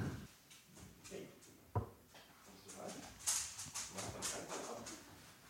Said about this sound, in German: Aha, wir haben einen Hund im Raum. Nee, er ist vor der Tür, ne? Naja, da muss er jetzt auch bleiben, oder? Das wird noch länger störend dann.